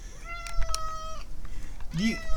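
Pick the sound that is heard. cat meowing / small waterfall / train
cat meowing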